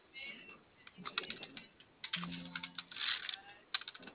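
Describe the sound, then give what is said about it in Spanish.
Someone taps away at a computer keyboard, a steady run of quick, irregular key clicks, with a brief faint hum or murmur partway through. “A ver, ayúdame revisando si su teclado prende, compañero.”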